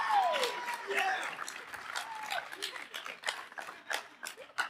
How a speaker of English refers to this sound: Now, you can give a round of applause for that. Yeah. Louder! Yeah.